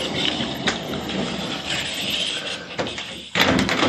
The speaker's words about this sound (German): So, die Tür mache ich mal zu.